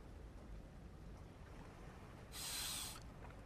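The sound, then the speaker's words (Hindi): A soft, steady wash of sea waves, heard quietly, with one brief hissing surge that swells and fades near the end. No voices are heard. “आओ इन बातों की जगह आंखें बंद करें और सिर्फ समंदर की आवाज सुने।”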